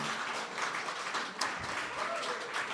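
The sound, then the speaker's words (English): An audience applauds steadily for a few seconds, a dense, even wash of many hands clapping at once with no pause or build, holding a fairly loud, constant level throughout. “There's a beautiful mirror to that sentence and applause, because I feel like in the Eureka Hotel I've said Hail Satan before and had everyone applaud me, so it's nice to say Christ and get the same response.”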